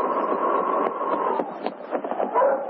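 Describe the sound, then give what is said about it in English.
Sergeant Preston's sled dog team barks and yips together in a steady, overlapping chorus as it reaches the main street of Portage City while it snows hard, moderately loud, with no talking, on a muffled, narrow-sounding old recording. “Both the sergeant and the dogs were looking forward to food and sleep.”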